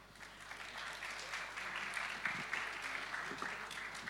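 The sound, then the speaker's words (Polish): Steady applause from an audience, a dense wash of many hands clapping at fairly even loudness for about four seconds, with a faint voice briefly audible underneath, welcoming a speaker from DotConnect on stage to present the Imagine Cup 2017 accelerator programme. “Brawa.”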